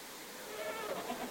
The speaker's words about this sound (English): I know my goats. I know they're suffering. Well, their appetites don't seem impaired.